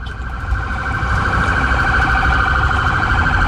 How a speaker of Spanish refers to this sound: Vienen ambulancias, como se pueden dar cuenta, los autos cometen, por supuesto, la actitud de cederle el paso y están pasando todos los vehículos de emergencia en esa dirección.